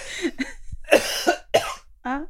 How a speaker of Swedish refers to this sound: jag blir så sugen på hosta här nu när vi har pratat om det. Kan jag bara få det?